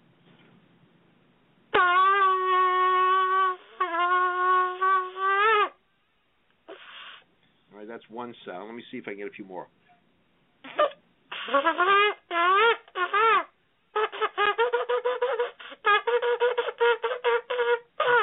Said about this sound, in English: All right, let me try this. This is one of the sounds of the shofar.